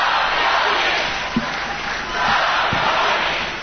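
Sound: crowd cheering and applauding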